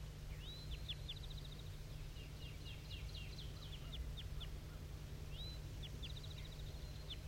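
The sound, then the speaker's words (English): A wild bird gives repeated high, thin flight calls in quick chirping bursts, a rising note followed by a rapid series of short chips, set against steady low background hum, no talking. “So recording at 7:34, I'm still hearing tons of flight calls coming from this bird.”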